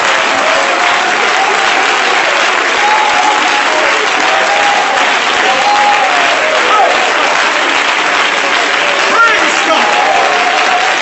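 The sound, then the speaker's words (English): An audience claps their hands to praise the Lord during a church service, in sustained, dense applause that stays loud and steady throughout, with indistinct voices calling out beneath the clapping. “Would you clap your hands and praise the Lord right now?”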